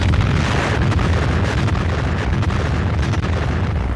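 The first French atomic bomb test explosion roars as a deep, continuous rumbling blast, loud and sustained throughout, with heavy low-end thunder and a crackling, turbulent texture and no voices.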